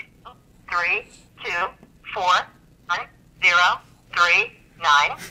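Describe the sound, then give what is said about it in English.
After a phone call stops ringing and is forwarded to an automated voice messaging system, a tinny, phone-filtered automated voice speaks in short, evenly spaced phrases with brief pauses between them, like a voicemail system message heard through a telephone line. “Call forwarded to an automated voice messaging system.”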